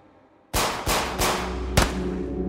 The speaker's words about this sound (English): On August 19, 1997, Lin Chunsheng faced 6 gunshots from the police while attempting to flee.